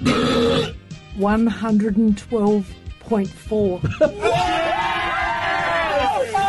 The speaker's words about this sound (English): Hey, since 2009, a guy in the UK held the record for the world's loudest burp. It was 109.9 on the decibel level. What? Apparently, a guy in Australia this week has beaten it. Do we have a little audio this day? The world's largest belch? Loudest?